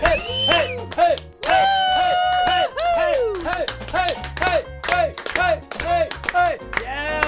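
Steady, rhythmic hand claps keep time over a loud, upbeat music track with a bright melody and a pulsing bass line, the claps repeating evenly throughout, played on The Dusty Show on WFMU.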